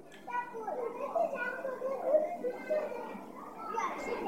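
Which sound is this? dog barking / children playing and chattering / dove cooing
children playing and chattering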